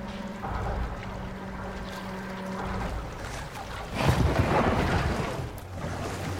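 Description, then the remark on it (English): Outdoor riverside ambience: a steady low boat engine drone hums for the first few seconds, then water washes and splashes more loudly, with some wind noise and no talking. “Dorian is left by the riverside.”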